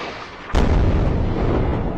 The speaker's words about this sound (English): Another huge explosion in Gaza. Israel Defense Forces say they've struck 130 targets in the last 3 hours.